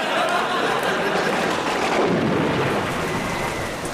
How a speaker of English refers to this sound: Rain lashed at us like an angry sadist in a lash factory, soaking us to the skin. Visibility dropped, and I had a sudden and horrible realization.